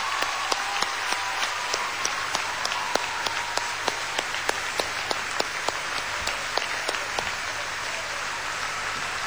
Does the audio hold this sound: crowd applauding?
yes